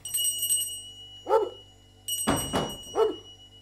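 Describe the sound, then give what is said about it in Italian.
A dog barks twice, a couple of seconds apart, with a brief clattering knock and a faint ringing between the barks. Nobody speaks. “Attenta a non far uscire il cane.”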